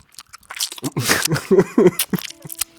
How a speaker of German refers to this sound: Während ich finde, es sind ja eher diese Gaumen- und Schmatzgeräusche, die mich stören.